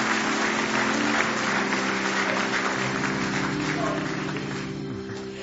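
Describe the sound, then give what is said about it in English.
A church audience applauds in praise during a service, dense hand claps blending into a sustained wash of noise over low sustained tones, holding loud for several seconds before tapering slightly at the end. “Give me one more hand clap of praise in the house of the Lord tonight.”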